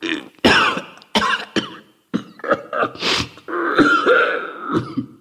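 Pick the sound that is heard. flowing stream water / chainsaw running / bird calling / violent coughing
violent coughing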